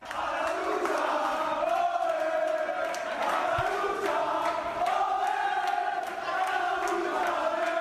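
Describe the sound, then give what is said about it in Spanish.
A locker room erupts in celebration of a historic promotion, with a loud, continuous chorus of voices chanting and singing in wavering tones, punctuated throughout by sharp claps and thumps. “Así suena un vestuario que celebra un ascenso histórico.”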